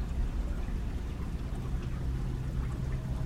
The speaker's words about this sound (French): Quelques arbres derrière nous nous entoure sur cette vaste berge, à quelques mètres. Se trouve la rivière que nous entendons à peine.